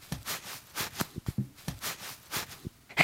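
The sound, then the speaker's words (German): A bag of cornstarch is squeezed over and over, giving a steady run of soft, crunchy squeaks that sound much like footsteps packing down snow, with no voices. “Und jetzt drücke ich die Tüte mit der Speisestärke.”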